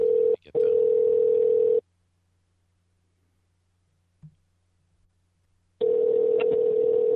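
A loud telephone tone hums steadily for about two seconds, cuts to near silence with a faint click, then returns and holds as the line keeps calling out while calling someone back.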